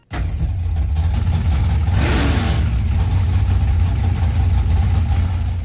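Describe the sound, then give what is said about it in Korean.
Loud, deep engine rumble fills the scene continuously, with a powerful rev swelling around the middle, from old cars modified with large-displacement engines at the Southeast Nostalgia drag racing event in Chattanooga, Tennessee, USA. No one speaks. “대배기량 엔진 소리로 시끄러운 이곳은 드래그 레이싱, 즉 쾌속 경주 대회 현장입니다.”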